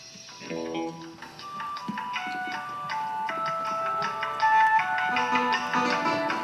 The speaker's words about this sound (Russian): Мы сначала написали пьесу, а потом сделали рингтон. Вот я могу вам рингтон, кстати, продемонстрировать.